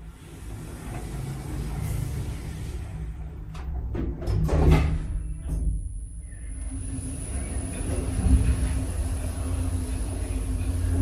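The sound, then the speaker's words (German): A door slides and thuds shut with a short burst of clattering clicks midway, set against a steady low rumble like the inside of a moving train. No one speaks. “Tür schließt.”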